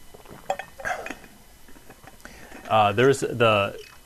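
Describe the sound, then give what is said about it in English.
Someone takes a drink of water: light clinks and small handling noises from a glass, soft sipping, then a short voiced sigh afterward. “All right, so let me take a drink of water here.”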